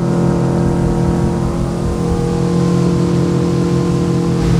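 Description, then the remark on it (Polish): A powerful motorboat engine roars steadily, a loud continuous drone with strong low harmonics and no pauses, as the boat speeds along a river on an extreme cruise toward a bridge, with the Centennial Hall in view on the way to the Zwierzyniecka marina. “jak i również wykorzystując moc tej łodzi oferujemy rejsy ekstremalne.”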